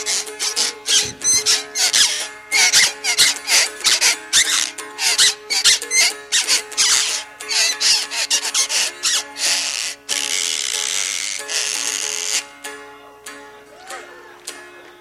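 A homemade corn fiddle scraped with a shoestring bow gives rapid, rhythmic squeaky strokes with a raspy, whistling tone, then longer sustained scrapes near the end. No voices.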